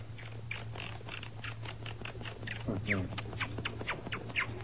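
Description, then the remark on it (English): A human voice imitates monkey chatter: a fast, continuous run of squeaky, chattering bursts, moderately loud, with a steady low hum underneath. “Now a monkey.”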